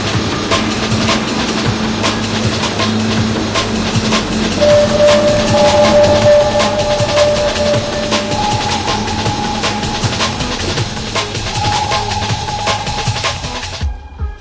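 A metro train runs along the rails, a loud steady rumble with repeated rail clicks and a thin electric whine rising and shifting pitch, no voices.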